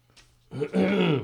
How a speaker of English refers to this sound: My throat is raw. Worst thing you can do when you're when you have a raw throat is to do this. Is to clear your throat, really. The worst fucking thing you do. Do I do it? Yes.